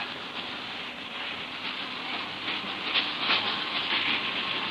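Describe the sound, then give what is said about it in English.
A steady rumble of a train carriage as the train comes to a stop, with a broad hissing noise layered on top, swelling slightly near the end, with no one speaking. “Oh, the train has stopped.”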